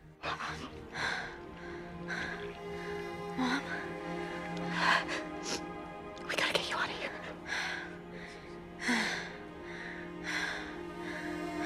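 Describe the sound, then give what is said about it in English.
A series of sharp, breathy gasps and deep inhalations in a hospital room, fairly loud, recurring every second or two against a faint steady hum; a woman gasps as breath fills a patient's lungs. “Sandra gasps as breath fills Claire's lungs and she starts to heal.”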